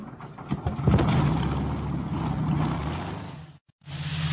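The loud, rough Rolls-Royce piston engine of a Spitfire fighter plane roars steadily with a deep throbbing drone, cuts out abruptly for a split second near the end, then resumes at full power.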